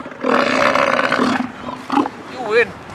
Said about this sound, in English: When the seal bellows, his hot breath hits Lars in the face. You hear the amount of air going in and out.